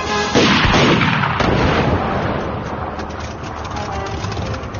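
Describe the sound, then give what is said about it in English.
Loud blaster fire strafing the ground in a wide arc erupts in sharp, crackling bursts, with two strong blasts early on, then settles into a dense, rumbling barrage that stays steady until the end. “Blaster fire strafed the ground around Dean, Jack, and Christy, in a wide arc that encompassed all three.”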